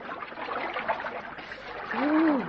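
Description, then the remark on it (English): Water churns and sloshes steadily as people wade into a cold stream, the splashing swelling louder toward the end, where a short rising-and-falling vocal exclamation cuts through. “Oh, the water's quite cold. Come on, let's go in.”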